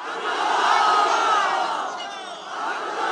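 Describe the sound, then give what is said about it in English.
A large crowd at a rally for presidential candidate Abdullah Abdullah, a one-time foreign minister, in a rural province a couple of hours north of Kabul, cheers and shouts together in a sustained, loud roar, with overlapping voices rising in pitch and swelling steadily, no single voice standing out. “We'll hear more tomorrow from the man they were cheering for there.”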